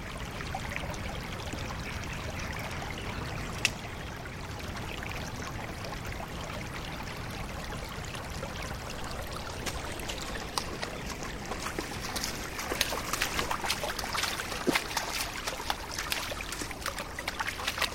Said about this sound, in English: Now listen, I think while we're here, we should just listen to the water of the burn and the crows that I can hear in the background and the wind. Let's just listen.